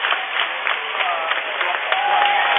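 A crowd of Overton basketball fans claps steadily and continuously in a gym in the final seconds of a state championship game, a dense wash of applause with a faint murmur of voices underneath and a brief high squeak near the end.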